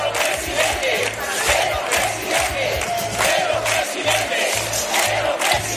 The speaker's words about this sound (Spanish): Como aperitivo esta noche, unas 300 personas se han concentrado frente a la sede socialista, convocados por redes sociales.